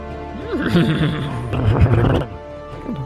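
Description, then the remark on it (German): A voice imitates a horse's whinny, a wavering, quavering neigh that rises and falls for about two seconds, fairly loud, followed by a brief softer sound at the end. “Du hast ein Pferd dabei.”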